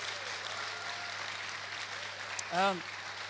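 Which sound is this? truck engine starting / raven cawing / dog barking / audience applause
audience applause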